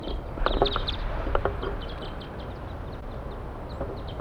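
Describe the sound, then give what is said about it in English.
A flock of wild birds calls together from the top of a pine tree above a bird net, a busy chorus of short, high chirps and twitters, thickest in the first second and a half, then thinning to scattered calls over a steady low outdoor rumble. “A flock is calling from the treetops.”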